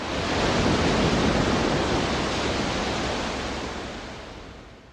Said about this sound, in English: Teibel called this track the psychologically ultimate seashore. The album was a hit. One critic wrote, "Waves come splashing out of the speakers."